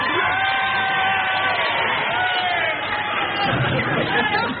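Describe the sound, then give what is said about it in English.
A studio audience cheers and shouts together in a loud, sustained roar of voices, with whoops and yells rising over the dense crowd noise for several seconds, cheering in agreement with Kenneth Williams. “If you agree with Kenneth Williams, you think I'm a nitwit, will you please cheer for him?”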